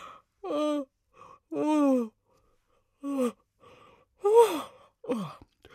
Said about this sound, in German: Ich glaube, das konntet ihr hören. Ich habe gegähnt und das könnte bedeuten, ich bin hundemüde. Das bin ich aber gar nicht. Ich habe nur so getan.